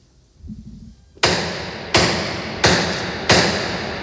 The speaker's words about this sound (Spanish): vamos a pedirle a Miguel Ángel que toque el martillo de este Cristo de los Gitanos de Madrid